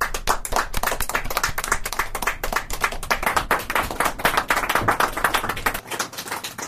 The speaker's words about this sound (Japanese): 西松笛英師匠にお出まし願おうと思います。皆さんちょっと拍手でお迎えいただけるとありがたい。